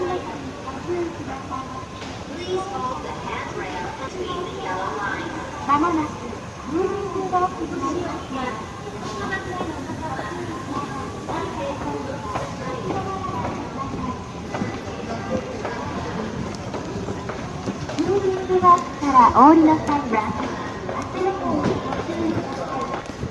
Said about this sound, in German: Was allerdings gut zu hören ist, sind die Geräusche aus dem Bahnhof in Kyoto. Und genau die hören wir uns jetzt einmal an.